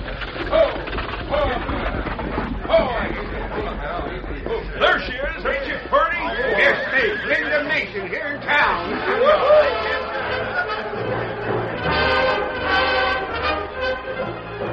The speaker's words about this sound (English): The stage arrived in town to be met by an excited crowd.